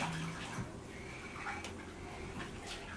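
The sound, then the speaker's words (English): A toy splashes and sloshes in pool water, a steady churning with a few brief splashy bursts scattered throughout, no voices. “I think he wants to go in the pool one more time.”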